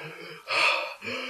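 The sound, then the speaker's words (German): A voice imitates a man's heavy breathing in a toilet cubicle: a strained inhale, then a louder, harsh breathy exhale, then another rasping breath, all within a second or so, with no words spoken. “Das Atmen wurde schwerer.”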